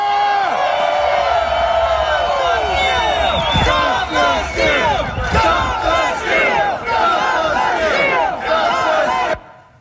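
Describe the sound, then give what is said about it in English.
A large crowd at a rally, led by President Trump, chants "Stop the Steal" in unison, many loud voices repeating the short phrase in a steady rhythmic pulse for about nine seconds before cutting off abruptly. “Here's what that chant sounded like from the crowd's perspective.”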